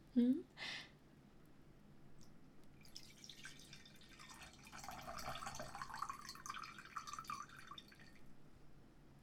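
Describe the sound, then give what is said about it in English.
Two quick glassy clinks, then a drink pours steadily into a glass for several seconds, moderately loud, its gurgling tone shifting as the glass fills, poured to go with dinner. “How about I pour us some glasses while you fix us some plates?”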